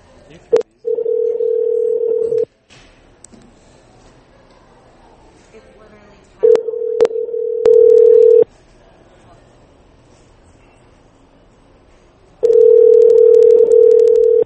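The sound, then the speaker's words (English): A telephone rings out over the line, three steady two-second ringback tones separated by long pauses, with no one picking up. Faint background murmur sits between the rings. “How about I phone him?”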